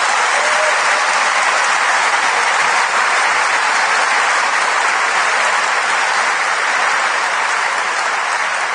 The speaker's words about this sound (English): and many of the people at the forefront of that fight are here tonight. And I think they deserve a round of applause.